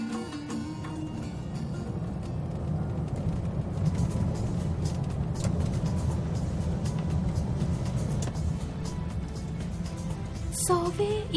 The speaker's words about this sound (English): Located southwest of Tehran, so I decided to drive my own car to reach this historical monument.